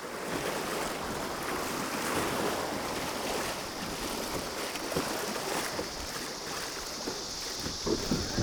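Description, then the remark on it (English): Steady rushing whitewater fills the scene, a broad continuous roar of river churning over rocks and a small waterfall and down a chute, loud with slight surges, plus some wind buffeting the microphone. “you're gonna go through this little, over a little waterfall, literally, then down a chute, and it wants to kick the nose of your boat over into the rocks on the right.”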